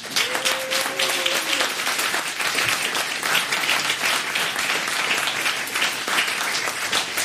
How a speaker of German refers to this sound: Und ich finde nochmal einen großen Applaus für das Organisationsteam, oder?